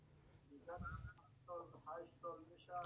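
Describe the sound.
Muffled television audio with voices and harmonic tones, heard faintly from a caller's end over a WhatsApp phone call, running steadily in the background with a low hum beneath it.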